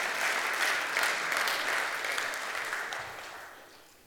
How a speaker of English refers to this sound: So can we give him a round of applause as he comes forward?